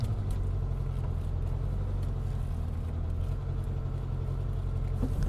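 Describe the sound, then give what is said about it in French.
A small car's engine rumbles steadily, low and continuous, with occasional light knocks and rattles as it drives along a rough, potholed path lined with brambles on each side, leading to a home in a forest. No one speaks. “Et effectivement, déjà pour rentrer, j'ai beau avoir une petite voiture, et ben il y a les ronces de chaque côté, il y a des trous.”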